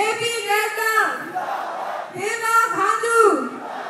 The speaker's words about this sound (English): At a rally in a playground flanked by mountains, supporters cheer for candidates from the ruling BJP party.